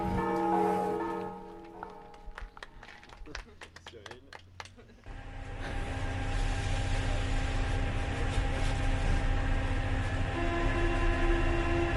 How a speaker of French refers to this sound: Une gare. Le métro, selon Marie. Ouais, mais c'est quelle ligne? 14.